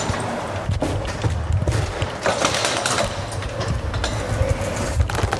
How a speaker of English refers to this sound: The thing is, though, as you might be able to hear, I also have my bike. Click. There goes the door. As I open it, this is going to be tricky to manage to get this bike out of the door.